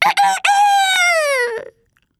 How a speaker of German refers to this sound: Er rannte davon, so schnell es ging, und hinter ihm schrie der Hahn vom Dach: Na bitte, endlich ist hier mal etwas los!